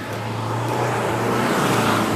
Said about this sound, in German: Ja, Müllabfuhr erstmal wieder hier komplett laut.